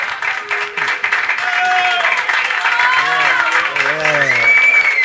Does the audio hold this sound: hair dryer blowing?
no